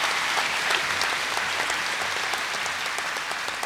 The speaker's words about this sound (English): And we'd like you to give a big round of applause to the boys who've done all the setting up, all the lighting and all the sound and all the effects. Give them a big hand.